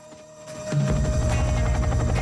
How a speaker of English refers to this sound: The shadow of a chopper on the jungle canopy.